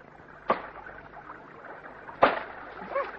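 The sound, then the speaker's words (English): Two sharp, solid thwacks of an axe chopping wood quite close by, spaced a couple of seconds apart, each striking hard and dying away quickly over a faint, low background hum. “when we heard wood being chopped quite close to us.”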